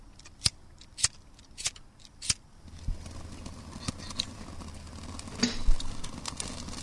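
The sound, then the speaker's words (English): Four sharp, evenly spaced snaps ring out, then a soft, steady crackle and low rumble build as small sticks and birch bark kindling catch fire, with occasional louder pops. “There we go. One fire.”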